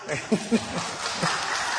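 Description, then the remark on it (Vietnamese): A brief patter of applause from an audience, a dense, even wash of clapping that lasts under two seconds, with a few short voice sounds mixed in near the start. “Cái này vỗ tay không?”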